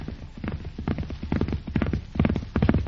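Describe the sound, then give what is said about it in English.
Horse hooves clip-clop in a steady, uneven rhythm, many hard knocks falling in quick pairs and clusters, with no voices over them. “Where is the stranger on the horse?”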